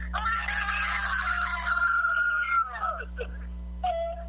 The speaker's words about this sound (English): Leave a message after the scream.